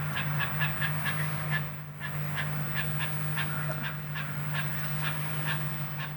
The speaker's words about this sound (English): What's that? You hear something? Huh? You hear something? Yeah. Birds are right.